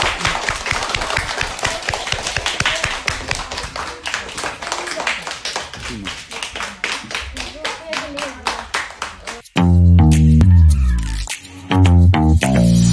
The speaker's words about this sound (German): Und wollt ihr einen Applaus? Okay. Ja, dann muss ich aber auch für euch applaudieren.